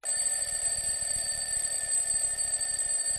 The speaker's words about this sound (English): So when Elliot's alarm clock rang on the first morning of term, Elliot had a completely new uniforme scolastica ready to wear.